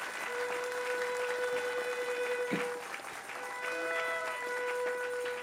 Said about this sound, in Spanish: Dale un aplauso al Rey de Reyes. Aleluya.